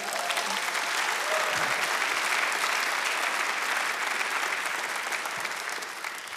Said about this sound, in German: Können wir Gott mal einen Applaus geben?